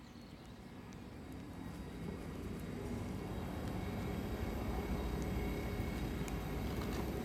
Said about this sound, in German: Es ist kurz vor 11, das heißt, hier in Basel fahren jetzt gleich die Züge ein. Wie immer zur vollen Stunde und alle ungefähr gleichzeitig.